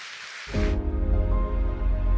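A short burst of audience applause at a church service, welcoming a video being shown, a dense crackling wash of many hands that cuts off after under a second as a low, sustained musical tone swells in and continues.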